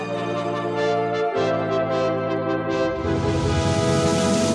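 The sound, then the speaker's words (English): Loud, buzzy synthesizer tones from an ARP synth hold steady chords that shift abruptly twice, ending in a denser, brighter, more textured sweep. Nobody speaks. “The sound of the ARP synthesizer.”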